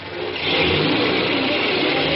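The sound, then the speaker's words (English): A taxi cab's engine revs up and accelerates, a steady, loud mid-pitched roar that swells within the first half second and then holds strong, with no voices. “I could hear the cops running down the stairs as I ran out through the door and jumped into a cab and got out of there.”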